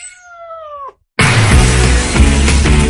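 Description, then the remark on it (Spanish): A single drawn-out cat meow, clear, falls slightly in pitch before cutting off, followed by a brief silence and then loud, dense music that fills the rest, in a radio advertisement for Cat Café Bilbao, a cat café with adoptable cats. “Ven a relajarte, a jugar con nuestros mininos”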